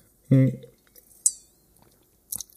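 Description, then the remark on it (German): A brief voiced murmur, then a single bright clink of wine glasses of Albariño touching in a toast, with a short ringing tail, followed by another quick, lighter clink. Fairly quiet. “Prost, wir stoßen nochmal an mit dem leckeren Albarino.”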